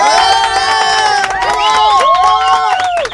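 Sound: audience applauding and cheering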